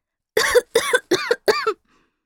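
A child coughs four times in a quick, evenly spaced series, each cough short and harsh, close up and fairly loud, with no talking.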